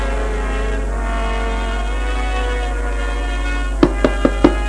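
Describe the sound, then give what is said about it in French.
Four quick, sharp knocks on a door in an even rhythm near the end, over a steady low droning hum that runs throughout. “On frappe à la porte.”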